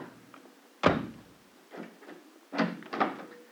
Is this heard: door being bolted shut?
yes